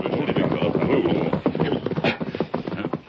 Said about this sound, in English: Horse make plenty noise. Maybe someone find us.